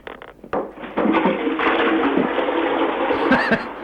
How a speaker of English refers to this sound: Was that exciting? Flushing their toilets.